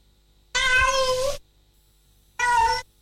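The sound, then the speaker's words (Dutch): A cat meows twice, fairly loud: a long drawn-out meow followed by a brief pause, then a shorter second meow, with quiet background otherwise. “Je ligt gezellig in bed met je geile kat.”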